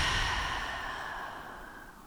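A single long, breathy exhale through the mouth after breathing in through the nose and holding, starting fairly strong and slowly fading away like a relaxed sigh, with no talking.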